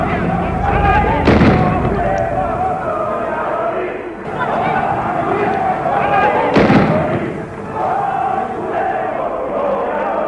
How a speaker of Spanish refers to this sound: Policías arrojan granadas de gases lacrimógenos.